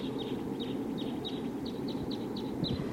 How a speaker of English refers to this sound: I definitely hear a wild bird, at least one flying around here. Maybe it's that same flock.